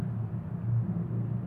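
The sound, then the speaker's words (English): A steady, low engine rumble from a bus passing outside, muffled and moderately loud, swelling slightly midway through, with no voices. “Let's let this bus pass.”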